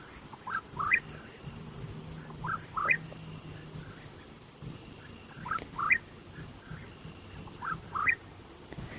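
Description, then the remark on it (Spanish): A cucurrí, a bird that sings only at night, repeats short, bright rising calls in clusters every couple of seconds at dusk around 7 pm, set against a steady hum of crickets and a faint high whine in the background. “Ese pájaro que escuchamos es un cucurrí y es un pájaro que solo canta de noche.”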